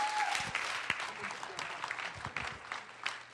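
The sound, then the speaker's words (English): A church audience claps their hands in thanks to the Lord, dense, overlapping applause that stays steady and fairly loud throughout, with faint voices murmuring underneath. “Clap your hands and tell him, Lord, I thank you for being more than enough in my life.”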